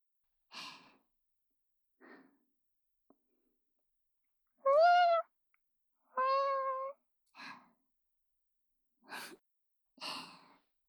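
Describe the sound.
A person imitates a cat as part of an animal-sound imitation quiz, giving two drawn-out, tonal meows in the middle, surrounded by several short, breathy puffs and sighs. Fairly quiet, with no talking.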